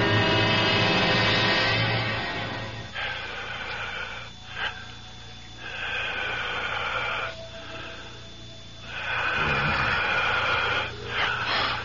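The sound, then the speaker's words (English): Heavy, wheezing breaths rise and fall in slow, drawn-out cycles, loud with a rasping, airy texture that seems to fill the whole room; no one speaks. “It sounds like the whole room is breathing.”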